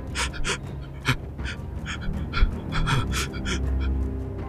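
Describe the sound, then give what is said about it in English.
A voice imitates light, frantic, panicked breathing: quick, airy panting bursts repeating steadily for several seconds, moderately loud with a faint low rumble underneath. “That's what you hear, is this very light, frantic breathing.”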